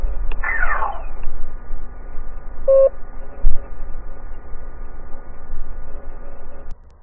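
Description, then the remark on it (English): A quick, buzzy laser blast sound effect fires once near the start as the message tone of an Arcade 8 voicemail greeting. A couple of seconds later a single short electronic beep follows, all over a steady low hum with no talking. “So leave a message at the laser blast and I'll get back to you.”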